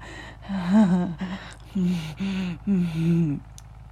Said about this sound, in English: He's panting.